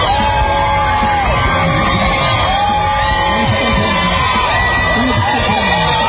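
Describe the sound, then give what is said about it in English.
A large outdoor crowd outside a hospital cheers and yells continuously as President Trump leaves the hospital briefly, waving from an SUV, with overlapping shouts and whoops rising and falling over a dense, steady roar of many voices. “The crowd cheers as President Trump leaves the hospital briefly, waving from an SUV.”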